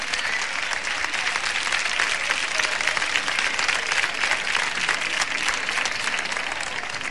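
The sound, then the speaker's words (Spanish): Sustained, loud applause from a sizable crowd for the winners of a pageant choosing queens and maids of honour for the Hispanidad festival in Huelva, Spain; dense and steady clapping fills the whole stretch without pause, with no clear voices rising above it. “Ya sois ganadoras, así que un aplauso muy fuerte para todas.”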